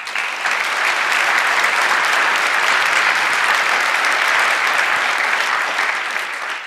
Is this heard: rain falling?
no